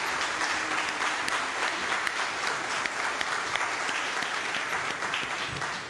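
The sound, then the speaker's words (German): An audience applauds steadily in a reverberant church, a dense wash of many hands clapping at an even loudness throughout, with no voices heard over it. “Normalerweise klatscht man nicht in der Kirche, aber ich finde, das ist doch ein Applaus wert.”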